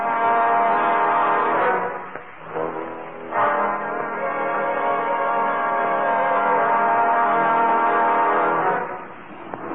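car horn

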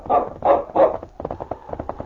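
dog barking

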